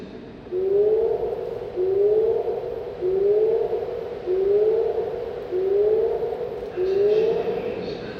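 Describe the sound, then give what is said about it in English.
A building fire alarm siren sounds during a fire alarm test, a loud, repeating whoop: six low tones, each sliding upward, in a steady rhythm about once every second and a quarter. “The fire alarm test is now complete.”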